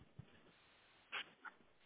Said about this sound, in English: This right here is the best dog.